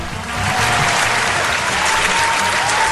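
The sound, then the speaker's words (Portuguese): A crowd applauds steadily for the Public Security Secretariat of the state of Maranhão after a suspect's arrest, a dense wash of many hands clapping at an even loudness for the whole stretch, with a faint tonal hum running underneath. “Palmas para a Secretaria de Segurança Pública do Estado do Maranhão.”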